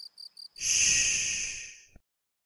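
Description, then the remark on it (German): A cicada sings: three quick, high chirps, then a sustained shrill, rasping buzz that holds for over a second, slowly fades, and stops abruptly. No one speaks. “Die Stimme der Zikade dringt bis ins Gestein.”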